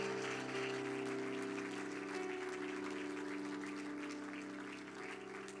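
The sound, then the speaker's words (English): Sustained applause from a large church audience welcoming guest workers of the United Pentecostal Church children's ministry, steady and full for several seconds, with a constant background hum running underneath and no one speaking. “They have done some amazing things with the children's ministry of the United Pentecostal Church, and we applaud them.”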